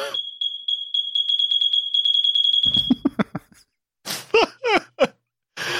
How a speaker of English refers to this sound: He says, folks, the alarm has been fixed. He got his smoke detector fixed. Wow. End of an era. Let's get a 21 beep salute.